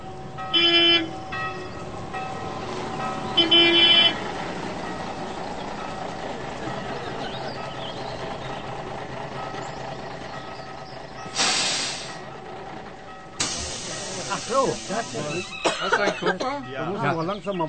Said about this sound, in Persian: حال بشنوید در اتوبوس چه می‌گذرد و سعی کنید این فضا را در ذهنتان مجسم کنید.